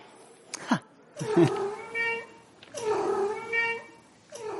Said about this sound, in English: Okay, so the answer, the cat behind the door, was cat number two. Let's hear that again.